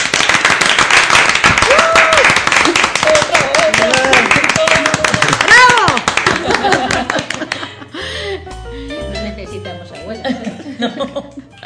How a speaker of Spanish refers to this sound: Bueno, muy bien, un aplauso ahí.